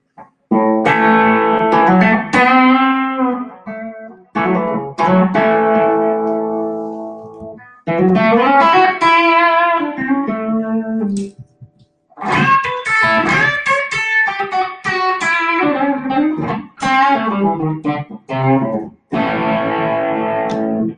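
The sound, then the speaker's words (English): An electric guitar called the Bandit, on its bridge pickup, plays short phrases of chords and ringing single notes, separated by brief pauses. The tone is bright, lightly overdriven and a little fizzy, with no voices. “So this is the Bandit on Bridge Pickup.”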